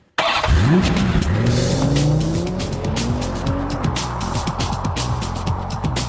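A loud new traffic-report intro jingle on the radio station Big 550 KTRS, built from car sound effects: rising engine revs and squealing tires sweeping upward, followed by a busy, sustained stretch of roaring motor noise with no talking.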